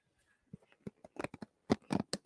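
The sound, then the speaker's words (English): Hairbrush bristles give off a string of dry, crunchy crackles in irregular bursts, sparse and soft at first, then louder and bunched together toward the end, with no voices. “The brush is making noises.”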